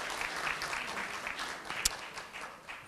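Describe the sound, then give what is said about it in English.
Steady applause from a crowd at a town hall meeting, applauding the news that TTC subway construction is underway; a dense patter of many hands clapping at moderate volume for a few seconds, with one sharper clap standing out near the end. “People can applaud to that.”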